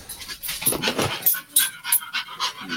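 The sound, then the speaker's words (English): An excited dog pants rapidly, a steady run of quick, breathy huffs with a few faint whiny edges, and no one speaking. “He sounds very excited right now.”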